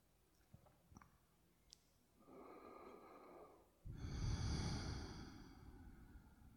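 slow deep breathing

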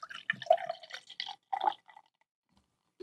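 beer poured

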